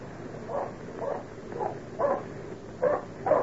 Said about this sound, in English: Badger's onto something here. He'd never bark that way for nothing.